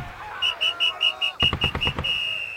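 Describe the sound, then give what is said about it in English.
A shrill, high whistle, blown by a Major to rally the troops, sounds in a rapid series of short, even blasts, then is held as one long steady tone, while a burst of loud, sharp bangs erupts midway. “As soon as those Germans heard that whistle, they threw down their guns and surrendered.”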